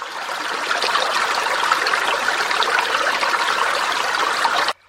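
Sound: splashing water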